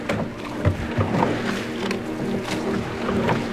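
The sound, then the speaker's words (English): A small boat moves steadily through water, with a continuous low engine-like drone, sloshing splashes and scattered knocks; no voices. “I made my escape in a small boat.”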